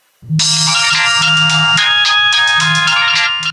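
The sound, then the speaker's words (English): A cell phone ringtone plays loud, a bright electronic melody with short repeating notes that runs steadily for a few seconds with no talking. “I use my cell phone to call my friend.”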